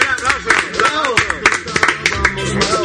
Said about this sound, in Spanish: Qué bravo, buen aplauso.